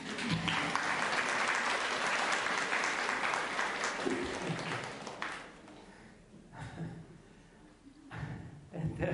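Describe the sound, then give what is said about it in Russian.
Sustained audience applause, a dense crackle of many hands clapping that swells loud, fades somewhat after about five seconds, then picks up again, with a few voices mixed in. “Где ваши аплодисменты?”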